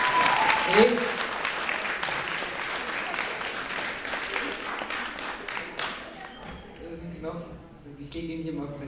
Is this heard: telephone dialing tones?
no